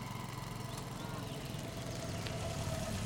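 A car engine idles steadily as the car stops at a farm gate, a continuous low rumble that holds even in level for a few seconds with no one speaking.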